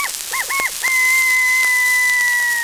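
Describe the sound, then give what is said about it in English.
A bantam rooster crows shrilly: a few quick clipped notes, then one long, steady, piercing call held for nearly two seconds, with no one talking. “Their hunger appeased, all are well satisfied, and none more so than a little bantam rooster, who emphasizes his approval of the repast by a shrill”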